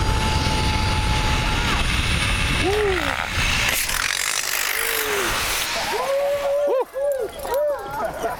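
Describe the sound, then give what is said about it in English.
The end of a ride on the Icy Strait Point Zip Rider in Huna, Alaska: a steady rushing whir with a thin, high pulley whine fades out, followed by several excited, rising-and-falling whoops and shouts. “Here's what the end of my first ride sounded like.”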